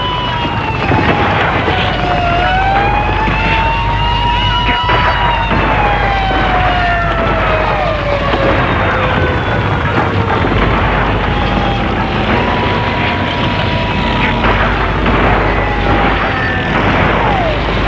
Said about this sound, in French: Les camions se mettent en route.